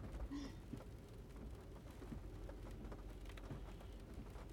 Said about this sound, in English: Well, yeah, I mean the rain for most is probably not ideal, but I really like the rain. I'm one of those people who get down when it's sunny and perk up when it's raining.